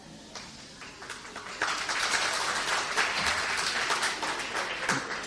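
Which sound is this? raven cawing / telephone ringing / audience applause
audience applause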